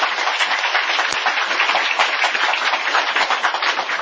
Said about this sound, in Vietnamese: Chúng ta cho một tràng pháo tay để tán thán.